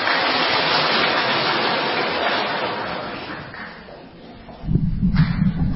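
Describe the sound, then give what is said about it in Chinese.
Sustained applause from a crowd at a Christian gathering, thanking a woman for her testimony and welcoming another coming up, a dense crackling wash of many hands clapping that gradually thins and softens, then a brief low rumble and a fresh burst of clapping near the end. “我们也鼓掌欢迎这边有一位姐妹，你刚才要上来，我们鼓掌欢迎她。”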